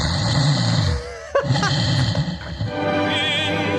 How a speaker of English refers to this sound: All right, so that's me snoring. Then in a minute I'll start singing and you'll hear it.